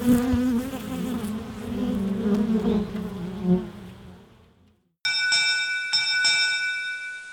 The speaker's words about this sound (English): Notable for pollination, honey, and social structure, honeybees also deserve a little buzz for demonstrating some fundamental chemistry and physics of water.